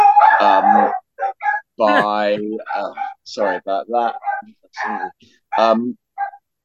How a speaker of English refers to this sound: I think he's been heckled by the dog.